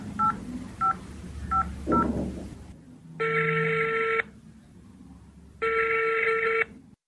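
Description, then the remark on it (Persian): Four short dual-tone beeps of a phone number being dialed to call a child's mother, followed by two long steady ringback tones separated by a pause, with faint murmuring underneath. “زنده باشی زنده باشی، تو باش که من به مادرش زنگ بزنم که بچه ایت پیدا شد.”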